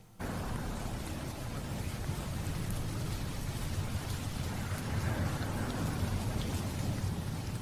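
Steady autumn rain falls outside, a dense, even hiss of drops with a low rumbling undertone that holds at a constant level throughout, with no voices.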